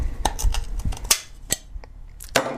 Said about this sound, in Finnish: Irrota laatikon kansi.